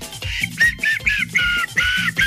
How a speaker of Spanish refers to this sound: Chiflar, sé chiflar. Y silbo súper fuerte. No, los voy a dejar sin oídos. Ya un poquito, suavecito, con los deditos. Ahí viene.